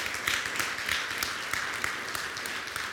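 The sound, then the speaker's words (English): A crowd applauds a committee of people one morning, many hands clapping in a dense, continuous patter that stays fairly even in loudness throughout, with no voices standing out. “So let's give them a hand applause, a hand clap of applause this morning.”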